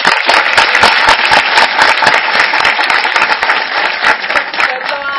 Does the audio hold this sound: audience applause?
yes